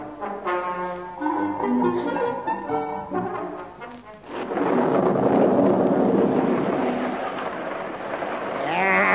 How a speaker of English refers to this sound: I've not seen a better drop of rain since the floods in 1908.